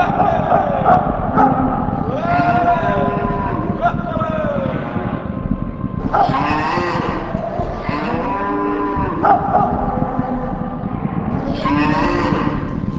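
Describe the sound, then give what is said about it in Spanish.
A stampeding herd of bison lowing, with many overlapping deep, drawn-out moans rising and falling over steady low rumbling, continuous and fairly loud throughout. “El ruido que hacía la manada de bisontes y el polvo que levantaban hizo que Kinahuacán se acercara a ver lo que pasaba”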